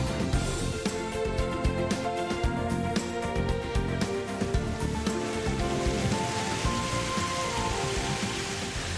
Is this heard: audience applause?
no